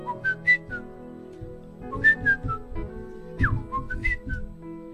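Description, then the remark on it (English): A person whistles a bird's melody: a few short phrases of clear, high tones with quick rising and falling slides, moderately loud over a low background hum, with no talking. “I know that they say birds sing, but I never knew that they do actually sing melodies, serious melodies. You know, a bird would do like.”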